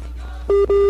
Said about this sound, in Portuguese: Ah, caiu esse sinalzinho, hein? Que saudade. Esse sinalzinho. É. Ah, quanto tempo que a gente não ouve um telefone chamando, né? Um sinalzinho de ocupado.